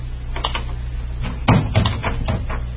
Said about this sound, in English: It was long after midnight when my office door slowly opened.